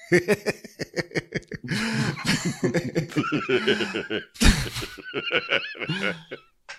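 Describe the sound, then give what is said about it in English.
A voice imitates a horse, introduced as Mr. Ed, letting out a long run of loud, wavering neighs and whinnies with snorting breaths and a sharp burst partway through. “Please welcome the first horse that we've ever had on this show, Mr.”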